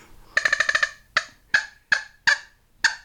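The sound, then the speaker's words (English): A squeaky percussion sound effect imitating squirrel chatter: a quick run of about six nasal chirps, then five single honking squeaks spaced roughly half a second apart, loud, with no talking. “And then one of my favorite sounds is the sound of squirrels.”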